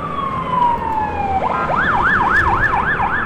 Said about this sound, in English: That's an ambulance caught up in this deadly slow sea of cars and lorries. The driver is snudging his way through, aided by compassionate and willing drivers. It got away.